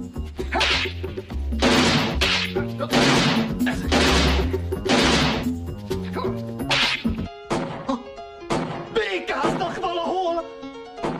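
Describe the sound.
A rapid series of loud, sharp, forceful gunshots cracks out over several seconds before the firing stops and people begin talking.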